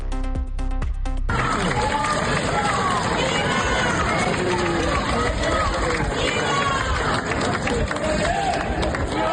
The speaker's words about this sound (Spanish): Así, a gritos de viva el rey, viva los reyes o viva España, han recibido cientos de personas en Guadalupe a los reyes don Felipe y doña Leticia en una visita enmarcada por el décimo aniversario de la proclamación de nuestro monarca.